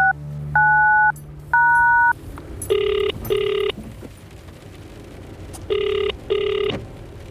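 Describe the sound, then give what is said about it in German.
A man dials a number on his mobile phone while driving away from an observatory car park: three clear keypad tones beep in steady succession, followed by two pairs of buzzy ringing tones, with a faint low rumble underneath and no voices. “die Nummer von Baron Kai Anna von Anders, seines Zeichens Investor und Gönner des Blasberg-Instituts, in sein Handy tippte”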